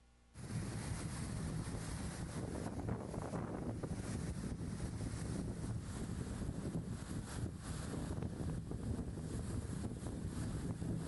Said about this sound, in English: And I want to show you, just to give you even better, I've shared this video before, but I like sharing it because it gives you like an idea. The Sea of Galilee with a storm, it looks like this.